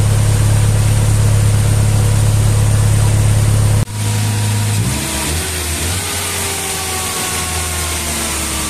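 A car engine, just started after its parts were cleaned and the cover refitted without a thermostat, runs at a slightly fast, elevated idle with a loud, steady hum. It is not running optimally. Midway it briefly cuts, then resumes with a slightly uneven, shifting tone. No one speaks.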